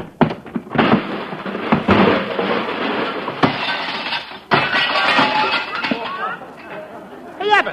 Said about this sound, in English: Abbott, look what he did. He broke my watch crystal.